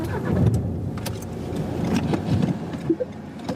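A car drives through dense city traffic in Dresden, its engine rumbling low and steady, with brief clicks and small mechanical noises over a continuous background of road noise.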